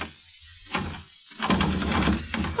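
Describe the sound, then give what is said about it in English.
A doorknob is jiggled and rattled against a bolted door in two bursts, a short one and then a longer, more insistent one. The clattering metal sounds are fairly loud, and no one speaks. “The door's bolted, you dope.”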